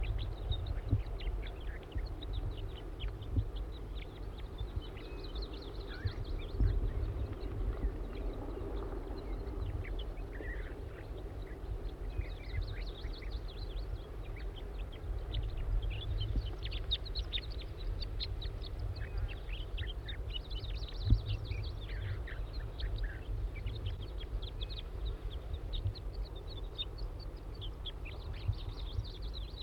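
A wild juvenile bird gives repeated thin, high-pitched calls in irregular bursts through the whole clip, over a steady low rumble. Nobody speaks.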